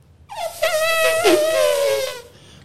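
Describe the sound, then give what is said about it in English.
A person in an office imitates an elephant's trumpet with their voice: one loud, buzzy, high-pitched blare held for about two seconds, wavering slightly in pitch before fading out, with no talking over it. “Which I do a mean elephant noise.”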